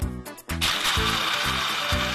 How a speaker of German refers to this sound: Jetzt ab damit in den Mixer und klein häckseln.